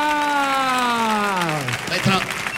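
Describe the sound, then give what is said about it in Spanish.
An audience applauds steadily throughout while a loud, sustained vocal cheer slides downward in pitch over it, then breaks off into more scattered clapping and crowd noise. “¡Fuerte el aplauso para”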